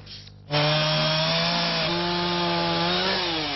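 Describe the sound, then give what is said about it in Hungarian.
A chainsaw roars to life after a brief quiet start, holding a loud, steady buzzing drone with a slight dip in pitch as it bites into wood, cutting down trees on Népsziget in Újpest, where a company is clearing the land for a small boat harbour. “Szereprendezés az újpesti Népszigeten, favágással.”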